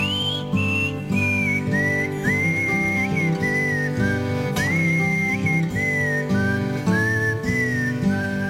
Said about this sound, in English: You can whistle along if you want to.